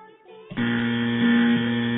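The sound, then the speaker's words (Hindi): A loud electronic quiz buzzer, pressed first by a contestant to answer a question, blares suddenly after a moment of quieter sound, holding a steady, harsh tone with a strong low hum that continues for well over a second. “जी जनाब, सबसे पहले आपने बजर दबाया, आप जवाब दीजिए।”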